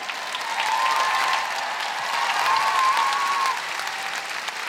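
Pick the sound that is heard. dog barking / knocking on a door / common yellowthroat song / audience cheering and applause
audience cheering and applause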